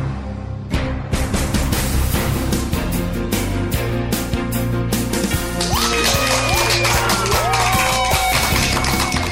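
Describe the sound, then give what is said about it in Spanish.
Loud, steady applause from a crowd, dense with rapid claps, with cheers and whistles rising over it in the last few seconds. “Y con esa energía positiva y esos aplausos, damos inicio a este episodio número 64 del programa Te Invito a un Café.”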